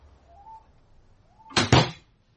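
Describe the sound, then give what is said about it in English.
A faint squeak or creak, then two quick, solid clunks, like a key turning a lock and a front door latch giving way as the door opens. No one speaks. “Have I got the right key? Let me have a go.”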